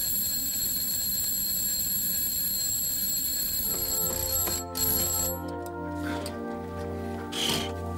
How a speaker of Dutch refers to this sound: Jongen, ik schrik me een ongeluk. Het was een wekker.